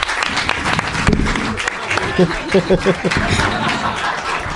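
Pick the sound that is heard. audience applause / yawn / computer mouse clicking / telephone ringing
audience applause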